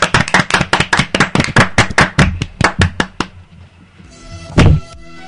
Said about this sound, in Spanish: Oye, está precioso, le damos un aplauso, chicos.